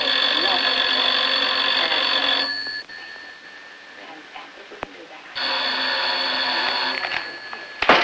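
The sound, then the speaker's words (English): A telephone rings twice in a living room, each loud, bright burst lasting a couple of seconds with a quiet pause of about three seconds in between, with no talking. “Sam slams down his paper and answers the phone.”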